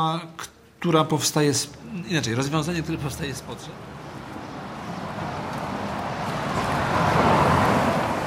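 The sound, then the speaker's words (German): A voice talks briefly at the start, then steady street traffic rumbles on its own at a zebra crossing outside a hospital, swelling louder near the end as a vehicle seems to pass by. “Draußen vor dem Krankenhaus wartet wieder eine Rentnerin am Zebrastreifen. Wieder hält kein Auto an.”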